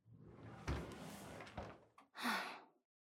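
door being opened

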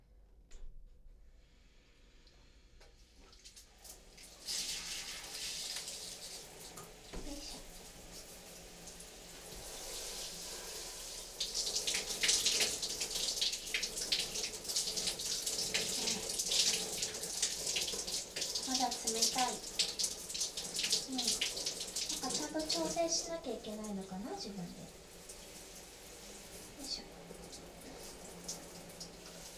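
shower water running

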